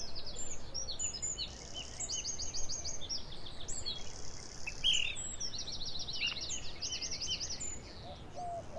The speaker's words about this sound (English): Birds singing very early in the morning.